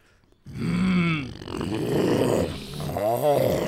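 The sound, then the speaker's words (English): A person makes a low, throaty growl, produced up in the head rather than with the voice, a sustained rumbling sound lasting a few seconds, fairly loud, with shifting pitch and a gravelly texture toward the end. “I'm not even using my voice when I do that. I'm using all this up here to make that low growl.”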